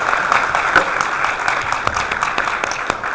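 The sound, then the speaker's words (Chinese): An audience at a Jing dagu (Beijing drum-song) performance claps steadily throughout, a dense, even patter of many hands at moderate loudness with no voices over it. “大家再用掌声给他们。”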